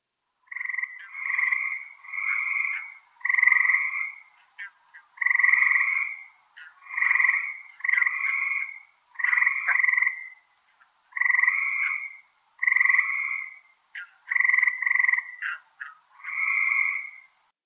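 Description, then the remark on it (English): A frog croaks repeatedly in a steady rhythm, each call a short, nasal, two-toned burst with brief pauses between, fairly loud with no other sounds. “That was a frog.”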